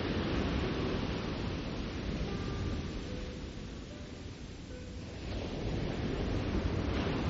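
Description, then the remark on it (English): Ocean waves roll in with a broad, churning wash of water that swells, eases briefly in the middle, then surges again, steady with no voices. “the sound of the ocean, sound of waves, surging and churning of water, and the moment of silence as each wave flows out again to rejoin the sea.”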